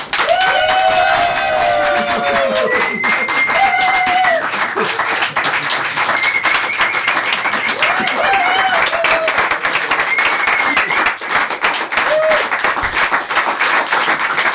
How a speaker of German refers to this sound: Dass sie klatschen, ist ja super. Vielen Dank für den netten Empfang.